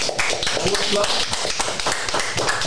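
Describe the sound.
A group applauds, with dense, steady clapping lasting the whole moment at an even loudness. Faint voices murmur underneath the claps.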